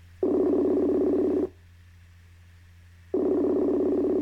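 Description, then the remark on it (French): A phone call being placed to a sister: two long, steady buzzing ring tones separated by a pause of silence, the electronic ringback pattern heard while waiting for someone to answer. No one speaks. “Tellement grosse que je l'appelle immédiatement pour en parler avec elle.”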